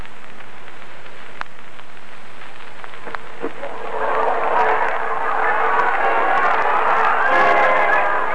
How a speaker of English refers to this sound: What a crowd, eh?